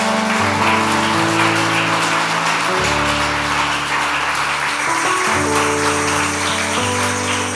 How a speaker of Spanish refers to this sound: Vamos a dar un aplauso grande al nombre del Señor.